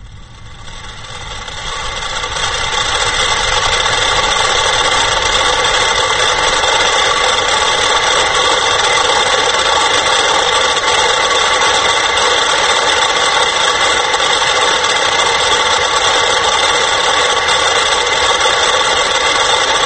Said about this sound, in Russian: симфоническая поэма для 100 метрономов в исполнении ансамбля метрономов лейбл Sony.